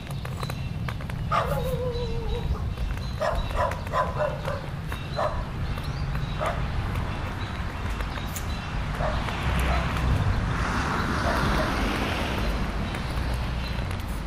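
A small dog yaps repeatedly in sharp, high-pitched bursts, several quick barks clustered together, then a few more spaced out, over a steady outdoor rumble of wind or traffic.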